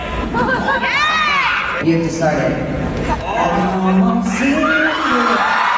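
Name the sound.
crowd cheering and whooping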